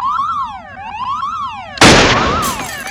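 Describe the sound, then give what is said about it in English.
A loud electronic alarm aboard a station that is explosively decompressing after a bullet pierced the hull wails in rapid rising-and-falling sweeps, then a sudden roaring blast of noise bursts in partway through, nearly drowning the siren as it keeps blaring underneath. “Oh, if that were true, there'd be an alarm.”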